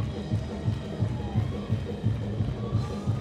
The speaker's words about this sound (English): There's a victory shout in here. Look at that woman shouting back there. Shout it out. Shout it out.